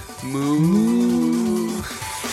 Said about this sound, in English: Moo.